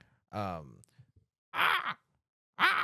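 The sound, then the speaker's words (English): A person voices three harsh, nasal caws imitating a crow, spaced about a second apart, each short, loud and raspy with strong harmonics. “That's my best crow.”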